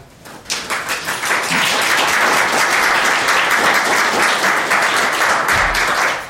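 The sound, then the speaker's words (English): A crowd breaks into loud, sustained applause, many hands clapping in a dense, steady wash that swells quickly after a brief start and holds strong to the end. “Can I ask you not to applaud?”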